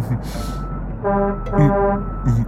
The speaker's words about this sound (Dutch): Wat hoor ik nou? Even kijken. Oh, de vuilniswagen komt eraan en mijn bak zit bijna vol.